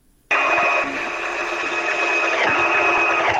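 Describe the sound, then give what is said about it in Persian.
A sewing machine used for tailoring in Afghanistan starts up abruptly and runs continuously, a loud, steady mechanical whir with a buzzing high tone and a faint rapid clatter, no voices. “در این گزارش که با صدای ماشین خیاطی آغاز میشه”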